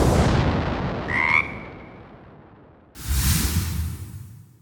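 A single short, nasal frog croak rises out of a steady rumbling background, and a few seconds later a loud, hissing rush of noise bursts in.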